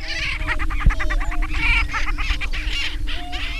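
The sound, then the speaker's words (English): A chorus of 16 male prairie grouse calling on a lek on a cold prairie at sunrise as they strut, jump and spar over territories, with overlapping cackles, whoops and honking notes layered over a low steady hum, continuous throughout. “The male birds square off, strutting, jumping into the air, doing backward somersaults, marking their tiny territories, and slashing at their rivals.”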